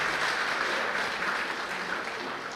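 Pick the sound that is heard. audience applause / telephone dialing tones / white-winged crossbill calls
audience applause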